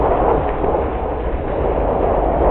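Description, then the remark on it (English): Loud, continuous rumbling of thunder in a storm raging at night outside Dr. Lanyon's London lodgings, a deep roar that holds steady for the whole stretch with no distinct cracks and no voices. “Outside a storm is raging.”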